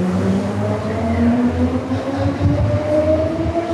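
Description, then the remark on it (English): A Medellín metro train, part of a system over 20 years old, rumbles steadily along the rails, with a deep continuous drone and tonal whines shifting slightly in pitch, loud throughout with no one speaking. “made our way on Medellin's metro to what is known as the infamous Comuna 13”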